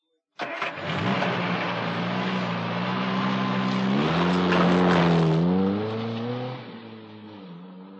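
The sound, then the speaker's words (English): A car engine starts abruptly and runs steadily, its pitch rising as it revs and accelerates, then easing off as the car drives on, carrying three people from the airport to a house. No one speaks. “All three of them get in Mrs. Kim's car and drive to her house.”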